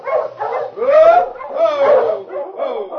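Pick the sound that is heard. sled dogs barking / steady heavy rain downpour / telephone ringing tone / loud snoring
sled dogs barking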